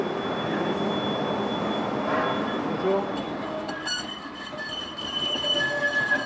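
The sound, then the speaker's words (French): A metro train rumbles steadily through Boxtal metro station, its roar filling the space, with high metallic wheel squeals rising toward the end and faint voices beneath. “Il est dans un coin du métro de la station Boxtal.”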